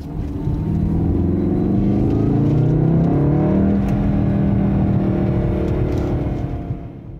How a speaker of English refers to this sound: which I love, by the way, except for the thing I'm about to tell you, has a turbo four-cylinder engine that tries to make up for its acoustic shortcomings by piping fake engine noise into the cabin through a little German gizmo called a sound ductor.